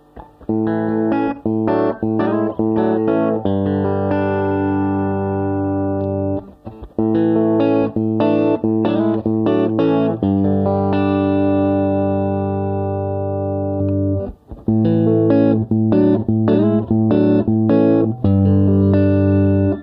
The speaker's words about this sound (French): mais on attend bien déjà le caractère hollow body de la guitare. Je vous fais quelques notes juste au doigt, toujours sans reverb, et ensuite on va s'ajouter de la reverb.